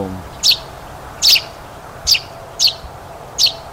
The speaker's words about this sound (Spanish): Gorrión también puede ser. Suena como un gorrión, pero es un trino muy bajo, lo escucho. O cachudito, pico amarillo o gorrión. No sé.